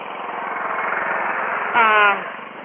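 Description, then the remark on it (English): Steady road traffic noise, a continuous engine rumble and hiss, with a louder harmonic whine like a passing vehicle or brief horn swelling up near the end before easing off. “All I'm hearing is traffic, and I'm just...”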